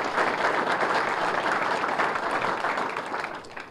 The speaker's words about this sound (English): They could not be here today, but I certainly want to take time to thank them for their efforts, and I think we should show them a round of applause, even though they're not here for their agenda.